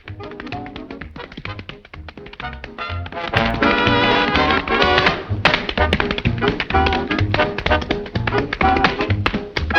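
Quick, rhythmic tap-dancing steps click and clatter in rapid bursts as a dancer dances onto a stage, over lively, loud music that swells midway and keeps driving to the end.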